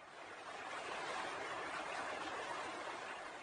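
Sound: flowing water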